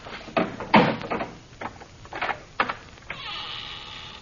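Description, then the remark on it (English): A heavy old door, unlocked with a great key and not opened for 1,000 years, creaks open: a few harsh, grinding bursts give way to a long, drawn-out hinge groan. It is fairly loud, with no voices. “Open the door.”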